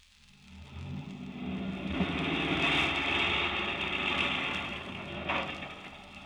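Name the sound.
car engine idling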